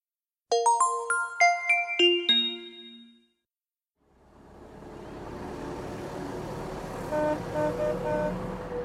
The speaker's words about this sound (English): A bus.